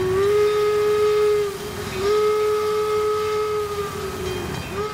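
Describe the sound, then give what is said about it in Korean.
A steam train's whistle blows in long, loud sustained blasts, pausing briefly between them, over the steady rumbling chug of the locomotive. It is a special train carrying Abraham Lincoln's remains home to Illinois. “그리고 나서 유해는 특별 열차에 실려서 고향인 일리노이로 돌아갔습니다.”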